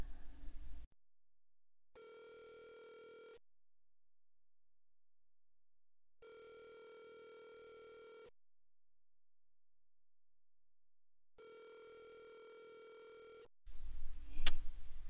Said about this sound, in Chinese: 这个人到底在做什么呀？打了好几个电话了，都不接。到底是去干什么了？连手机都不看了。